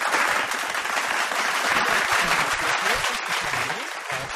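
A dense wash of canned crowd applause, played on the Triple M radio show Get This for Charlie Beck, many hands clapping at once in a steady, loud roar that holds evenly throughout with no voices standing out.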